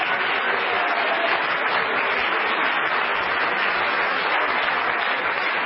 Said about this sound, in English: Somebody clap your hands on the Lord and praise Him right now.